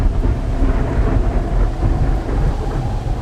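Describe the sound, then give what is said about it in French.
Thunder rumbles steadily and loudly through a storm, a deep continuous roll with rain hissing beneath it, no voices present. “Il y a certains jours, quand il y a un orage, quand il neige...”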